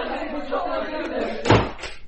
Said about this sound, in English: Shut the door.